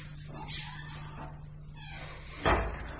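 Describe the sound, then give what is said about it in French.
A front door opens with faint creaking and rustling, ending in a solid thump near the end, all over a steady low hum. “Et, écoutez, mon commandant, j'entends justement la porte d'entrée qui s'ouvre, ce doit être elle.”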